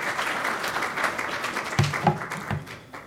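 A crowd applauds steadily, a dense wash of many hands clapping with a few sharper, louder claps and faint voices rising near the end.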